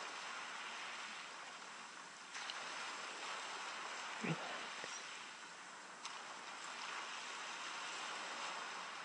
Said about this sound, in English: Perhaps you can hear the sound of the sea. Just imagine you're by the calm, calm sea.